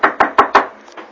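Four quick, firm knocks on a door in an even rhythm, close and loud, followed by a couple of fainter taps as the sound dies away.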